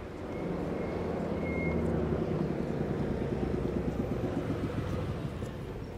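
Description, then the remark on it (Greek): A bus arriving at a stop on a busy street during the evening rush hour: its engine rumbles steadily, a deep droning hum that swells and then eases slightly, with a brief high squeal early on. “Α, να το λεωφορείο.”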